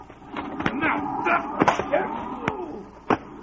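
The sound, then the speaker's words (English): Several sharp punching thuds land at irregular intervals in a fistfight, one final blow knocking a man down, over a steady murmur of voices and scuffling. “You knocked him down.”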